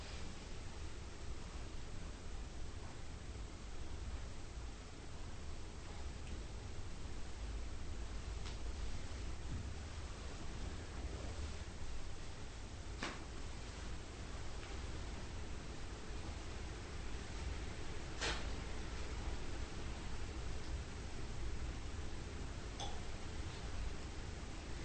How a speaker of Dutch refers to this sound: Je hoort de wind in de bomen.